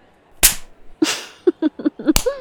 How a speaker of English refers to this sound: Do it again. Oh, yeah, this is great. Slap it around a bit more.